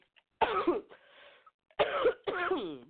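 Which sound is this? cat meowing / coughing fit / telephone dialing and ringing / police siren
coughing fit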